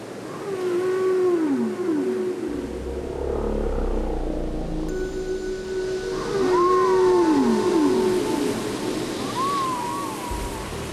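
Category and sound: animal, whale song underwater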